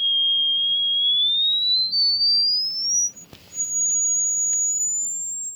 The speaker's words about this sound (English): He recently broke the record for highest whistle tone ever recorded